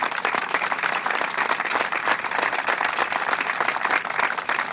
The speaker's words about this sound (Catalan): que sempre pensem en ells, i des d'aquí un record i un aplaudiment per tots ells.